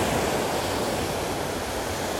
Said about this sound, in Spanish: Escucha el mar con Zoro 14K